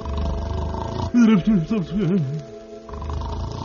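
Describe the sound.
A voice imitates a giant's snoring while he sleeps in his cave, in a telling of the little tailor tale: a loud, wavering, rumbling growl that rises and falls in several quick swells over about a second and a half, with quieter background before and after.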